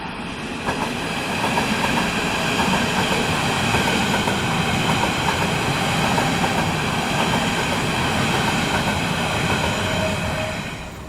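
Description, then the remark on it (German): An S-Bahn commuter train rolls past on the rails, a loud, steady rumble with rattling wheel noise and a faint high whine, holding for the whole stretch with no voices. “Wir gehen jetzt hier über eine Brücke rüber und nehmen jetzt erstmal die S-Bahn auf.”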